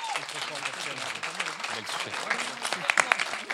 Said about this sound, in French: Par applaudissement, qui est d'accord avec ça ? Qui préfère ?